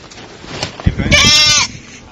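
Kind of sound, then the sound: animal, sheep bleating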